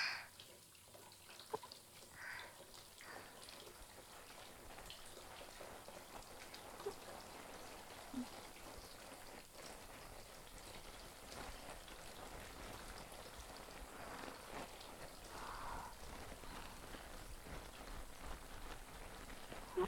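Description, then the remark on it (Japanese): Body soap taken in the hand is worked into fluffy foam with a steady, wet squishing and fizzy crackle of bubbles that continues evenly throughout, with no voices. “そうと決まればボディーソープを手に取って、しょ、ふわふわになるまで泡立てるっちゃ。”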